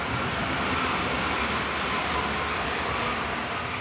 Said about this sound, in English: We turn a corner to find the train tracks in front of us and a New Silk Road train passing through, headed west to Central Asia and possibly all the way to Europe.